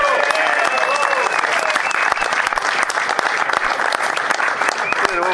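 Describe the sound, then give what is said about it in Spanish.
An audience at a tournament applauds a sponsor, clapping steadily and densely for several seconds, a loud sustained wash of many hands with a few cheers and voices rising through it. “Así que un aplauso.”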